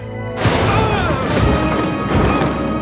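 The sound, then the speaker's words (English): An improvised explosive device, triggered by tapping a communicator badge, bursts in suddenly after a brief quiet moment, loud, then carries on as a sustained roar of rumbling, crackling debris until the end. “and then when he was thrown free from the melee, he taps his communicator badge, and it triggers this improvised explosive that he's got a great action movie quotable.”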